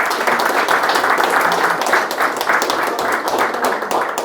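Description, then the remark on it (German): An audience applauds an artist at the opening of his exhibition of paintings, many hands clapping in a dense, sustained wash of sound that stays fairly loud throughout with no talking over it. “Ja, herzlichen Applaus dir, lieber Hardo.”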